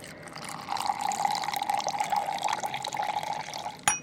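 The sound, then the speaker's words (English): Concentrated coffee and then very warm milk pour steadily into a cup for a few seconds at Café Tacuba in Mexico City, a continuous trickling stream, ending with a brief clink as the pouring stops. “So they pour this really concentrated mix of coffee and then really warm milk.”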